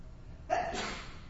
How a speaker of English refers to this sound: Bless you.